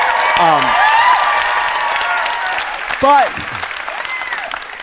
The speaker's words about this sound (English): Applaud for Obamacare.